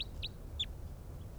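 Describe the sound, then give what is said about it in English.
A bird, bird number 305, gives a quick series of high, sharp chirps, three close together and a fainter one after a short pause, over a steady low rumble. “And bird 305 there is getting excited.”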